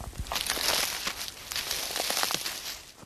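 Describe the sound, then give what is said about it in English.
Footsteps crunch through dry leaves among trees during a mushroom hunt, a steady run of crisp, crackling steps with bright, brittle rustling between them and no voices. “We continue in silence, hearing the crunch of leaves beneath our feet and smelling the wafts of rosemary and thyme set off by our touch.”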